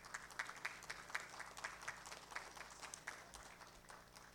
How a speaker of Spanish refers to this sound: Fuertes los aplausos para estos homenajeados.